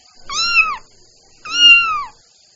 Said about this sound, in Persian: گربه ناز و ملوس، دنبال موش میکنه، خوشحال و خندون میشه وقتی که پیداش کنه. شاید گرسنه باشه وقتی نگات میکنه، با چشمای ملوسش انگار صدات میکنه.